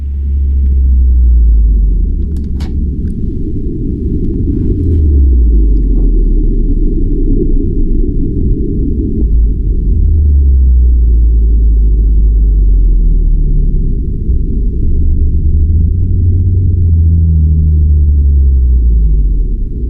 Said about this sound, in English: This must have been very exciting, being out there and seeing this, finding this pod of 80 blue whales. You recorded, I think, more than 40,000 whale calls. Before we talk, let's just have a little bit of a listen to some of the sound you captured.